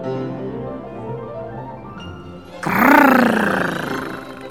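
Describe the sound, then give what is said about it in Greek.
A low, rumbling growl builds for a few seconds, then bursts into a loud roar that swells and slowly fades toward the end, heard at night from the parents' bedroom. “Έναν βαθύ βροντερό ήχο, σαν βρυχυθμό άγριου ζώου, που όλο ένα δυνάμωνε και δυνάμωνε.”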